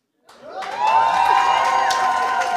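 An audience bursts into loud applause and cheering for themselves, rising quickly after a brief silence and holding steady with shrill whoops and shouts layered over continuous clapping.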